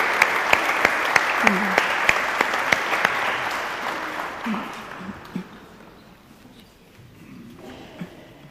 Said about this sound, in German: Und wir klatschen einmal für unseren Gnadenjahrgang.